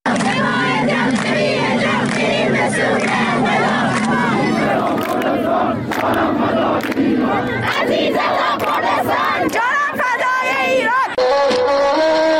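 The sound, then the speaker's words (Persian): A large crowd at a 40th-day memorial ceremony in Izeh, Iran, chants anti-government slogans together, loud and unbroken for the whole stretch, with rising and falling shouted phrases and a dense layer of many overlapping voices. “اینجا در مراسم 40مش در ایزه مردم شعارهای ضد حکومتی سر دادند.”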